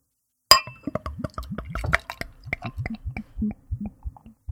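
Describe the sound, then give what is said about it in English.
Beer pours into a glass, starting with a sharp clink and then a steady run of bubbly glugs that rise in pitch as the glass fills, with no voices; a very dark Rhinelander beer brewed with cocoa powder, forming a fizzy head. “So I'm pouring the beer. It's got a pretty fizzy head.”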